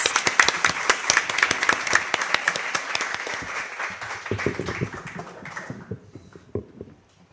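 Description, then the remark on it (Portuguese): An audience breaks into steady, enthusiastic applause welcoming a singer-songwriter guest at the Sarau Elétrico event, dense clapping before gradually thinning out and fading to a few scattered claps at the end. “Então recebam com uma salva de palmas”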